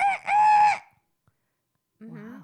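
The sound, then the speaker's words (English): A person vocally imitates a wild turkey with two loud, harmonic, warbling calls, then falls silent before another voice joins in at a lower, rougher pitch. “So wild turkeys, though, wild turkeys make more of a sound. No. It's not even a gobble.”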